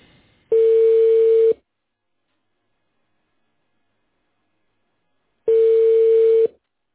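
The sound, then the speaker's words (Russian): A telephone ringback tone while a callback to a client connects: two steady, clear one-second buzzing tones separated by about four seconds of silence, heard alone with no voices. “Обратный звонок. Соединяем с клиентом.”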